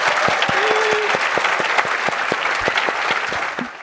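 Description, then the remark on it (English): An audience at a Greenbelt Festival talk applauds the panelists steadily, many hands clapping in a dense, even wash of sharp claps that stays loud throughout, with no voices rising above it. “So I just want to say a huge thank you to our panelists. Let's give it up for them.”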